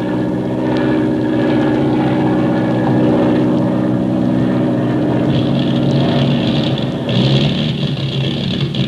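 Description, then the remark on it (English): A loud, steady propeller-plane engine drones throughout as the airplane flies over the Indian Ocean, its pitch wavering and roughening slightly near the end as the motor falters and sputters. No voices are heard. “Hear that, Skip? We've got motor trouble.”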